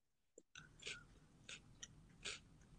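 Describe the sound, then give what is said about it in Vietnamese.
Quiet crunchy chewing of cereal, with four or five irregular crisp crunches spread over a few seconds and no talking. “Có nghe thấy tiếng tôi nhai không vậy?”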